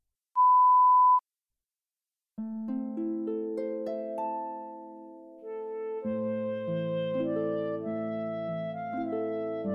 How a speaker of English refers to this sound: Listen to the dialogues and answer each question that follows when you hear a beep.